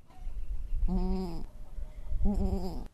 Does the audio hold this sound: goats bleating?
yes